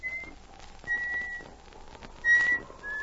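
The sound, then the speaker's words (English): Someone walking home through spruce trees in the evening whistles a short tune of several clear, sustained notes at shifting pitches, moderately loud, with faint background noise and no talking. “He missed the comforting companionship of his dog as he walked through the shadows of the spruce trees and began to whistle to keep up his courage.”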